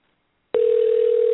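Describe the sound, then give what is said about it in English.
After a short silence, a telephone ringing tone on a call starts abruptly: one steady, unbroken mid-pitched hum that holds at an even level with no voices over it. “It's ringing again.”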